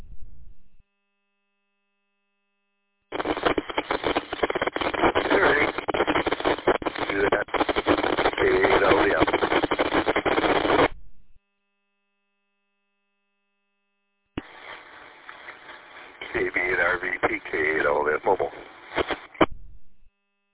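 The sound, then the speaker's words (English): A weak radio transmission breaking up at a repeater: two long bursts of harsh, hissy, band-limited static with garbled traces of signal, separated by a few seconds of silence. “Yeah, you were just barely clipping the repeater.”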